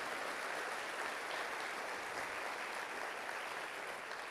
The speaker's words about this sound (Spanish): Aleluya, dale un fuerte aplauso, gloria.